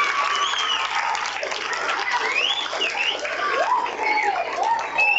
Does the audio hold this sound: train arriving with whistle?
no